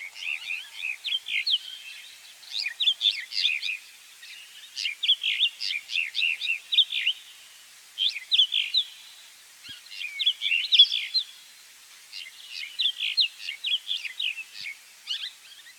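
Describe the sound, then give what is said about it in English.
Mountain wheatear song, a bird of the Namib Desert and surrounding grasslands: bright, scratchy warbling phrases delivered in quick bursts with short pauses, clear, continuing steadily with no voices or other sounds. “The mountain weed eater, for example, lives in the Namib Desert and the surrounding grasslands.”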